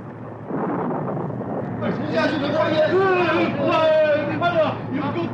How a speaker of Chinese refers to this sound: 一小时又一小时，他们在暴风雨里挣扎着。